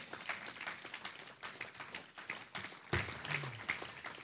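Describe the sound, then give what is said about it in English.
An audience at a church service clapping their hands together in a dense, steady, loud burst of applause, with a few voices calling out near the end. “If you believe it, clap your hands to the Lord.”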